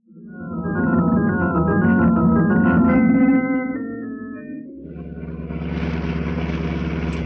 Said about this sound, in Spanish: conduce ahora el auto a través de un nuevo camino serpenteante y el típico Monte Pilato reaparece en la distancia.